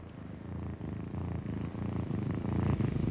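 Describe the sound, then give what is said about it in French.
A lion, one of two on either side of a staircase, purrs steadily, a deep rumbling drone pulsing in a regular rhythm of roughly seven cycles. It stays loud and continuous throughout, with no voices. “Les plus gros chats du quartier.”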